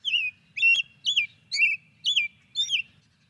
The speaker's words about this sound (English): Well, let's hear the sound of one of the birds you write about. It also happens to be Wisconsin's state bird. Here is a robin song.